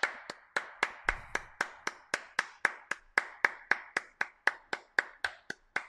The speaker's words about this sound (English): Clap your hands.